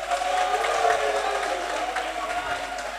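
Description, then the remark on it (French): A crowd applauds steadily for the delegate's group, the 'groupe de dévouement': a dense wash of clapping that holds at an even loudness for a few seconds, with a murmur of voices mixed in. “Depuis que je suis là, d'abord, je suis délégué de mon groupe, donc le groupe de dévouement que je vais demander d'applaudir.”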